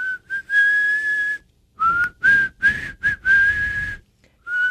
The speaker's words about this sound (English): Talking about our own whistling skills.